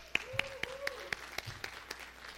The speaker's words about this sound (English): Everyone not clapping gets to go helping Grace kids.